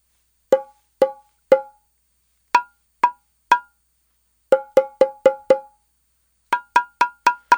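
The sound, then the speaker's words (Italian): A drum struck in short sharp beats with a bright ringing tone: a group of three, another three, then two quicker runs of five, with silence between groups and no voices. “È un tamburo a bussare.”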